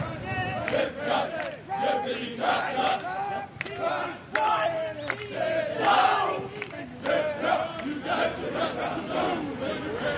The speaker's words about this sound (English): the sound of my city every morning, Monday through Friday at 6:30, is the sound of soldiers training.